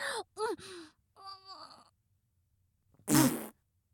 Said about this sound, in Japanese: ブッブッ。もう、おならしたのに、なんでパパ遅いの？